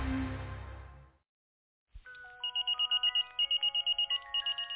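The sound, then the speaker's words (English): An old phone or pager rings with a rapid, regular series of high electronic beeps over steady tones as someone pages its owner, preceded by a burst of rumbling noise, a brief silence and a click. “Got this old ass grandmama phone and shit.”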